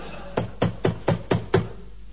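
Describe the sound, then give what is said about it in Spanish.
Five quick, evenly spaced, firm knocks on a door in a steady rhythm, with no one speaking. “Que me parece que es Rolón que golpea la puerta.”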